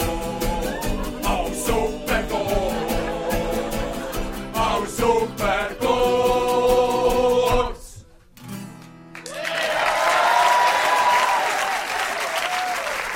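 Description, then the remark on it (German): A loud band plays a rhythmic tune for about eight seconds at a Schnitzelbank performance by the Gürbs in Solothurn, stops briefly, then sustained audience applause rises as a dense, steady wash of clapping, with a few voices faintly cheering. “Mir gehört es am Applaus.”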